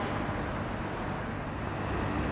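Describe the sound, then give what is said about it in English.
A steady rumbling hiss of water coming to a boil in a kettle for making tea, continuous and fairly loud throughout, with no voices over it. “Ah, the water's boiling.”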